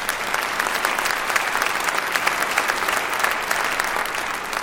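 A crowd applauds steadily during a speech, with dense, even clapping that holds at a strong level for several seconds without any talking over it.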